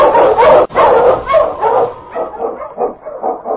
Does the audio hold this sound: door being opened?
no